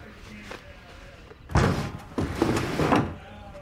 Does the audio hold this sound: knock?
yes